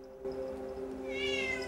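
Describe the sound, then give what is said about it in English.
A single drawn-out meow from a short-haired black cat wandering into a home kitchen in Golders Green, fairly loud, rising in pitch toward the end, heard alone with a steady low hum in the background and no talking. “leans on the worktop as a short-haired black cat wanders in.”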